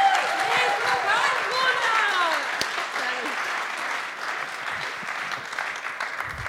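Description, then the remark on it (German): An audience in St. Gallen breaks into sustained applause for a guest coming on stage, a dense wash of clapping that stays loud and steady throughout, with a few whoops and cheers rising above it early on. “So, geben wir einen herzlichen Applaus, all the way from Munich to St.”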